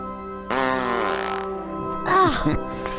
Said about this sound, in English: One of these days you are gonna fart your guts out.